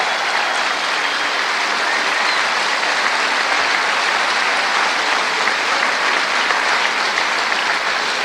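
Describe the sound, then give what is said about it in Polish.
Sustained applause from a concert audience as a singer takes a final bow, a dense steady wash of clapping that stays loud and even throughout without any voices breaking through. “Brawo, brawo.”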